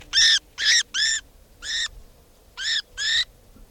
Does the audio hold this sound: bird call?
yes